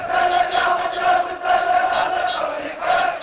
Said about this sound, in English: The crowd chanted, "Get out, occupier," and waved Iraqi flags and banners, saying, "Down with Bush, down with America."